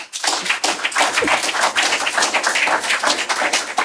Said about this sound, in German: Einen herzlichen Applaus zum Abschluss.